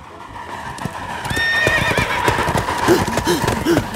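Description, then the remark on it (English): A horse whinnies with a high, wavering call while hooves clip-clop in a quick, steady rhythm, fairly loud, as the horse runs alongside a train; the galloping continues after the neigh fades. “The horse sees the train. The horse runs with the train.”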